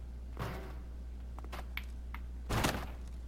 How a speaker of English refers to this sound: Stay clear. I'll break down the damn door with the extinguisher.